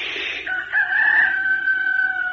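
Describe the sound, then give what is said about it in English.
A person imitates a rooster's crow: a short breathy burst, then one long, loud, sustained nasal cock-a-doodle-doo call held steady for about two seconds. “But just inside the window where the rooster slept in his bed, you would have heard him take a deep breath and crow like this.”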